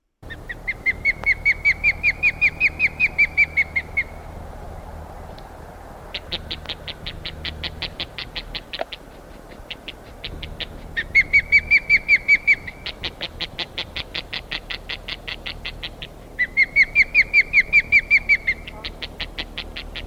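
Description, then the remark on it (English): A single agitated osprey, circling its nest, calls in loud, rapid series of sharp, high whistled chirps, several bursts of several seconds each separated by brief pauses, over a low rumbling background. “That's one bird, and the sort of you're hearing, that is a very, very ticked off osprey.”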